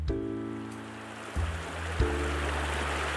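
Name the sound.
river water flowing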